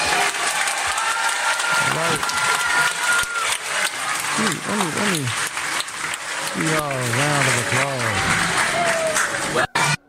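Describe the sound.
A crowd claps loudly and steadily for about ten seconds, a dense, continuous wash of applause, with voices shouting and talking over it before it cuts off abruptly.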